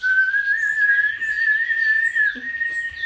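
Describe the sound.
A person whistles in imitation of a blackbird's song: one long, clear, fairly high tone held for about three seconds with a slight wavering, alone and without any talking.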